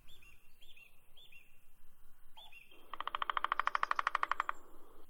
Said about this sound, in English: Oh, listen. Very sweet. Here we have the birds singing, the beautiful nature, and a new adventure in Iran. Yes, I'm in Shirabad Park in Golestan province, and our today's destination is Shirabad Waterfall.